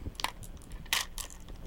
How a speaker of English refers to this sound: There's some keys and some measuring spoons.